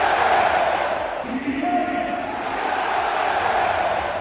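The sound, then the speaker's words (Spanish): A huge stadium crowd at the Parc des Princes, home of Paris Saint-Germain, roars and chants in unison, a dense wall of voices holding sustained sung notes that rise and fall at a steady, loud level throughout. “Bueno, pues el francés el viernes fue fundamental en la victoria de su equipo y así gritaba el Parque de los Príncipes.”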